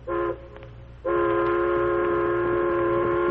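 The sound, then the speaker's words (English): A steam train's whistle blows two sustained, chord-like blasts, a short one then a long loud one, over the low rumble of the train running along the tracks across the plains. “While the Lone Ranger and his faithful Indian friend Tonto rode in a wide circle to pick up the trail of the outlaw gang, a train headed across the plains.”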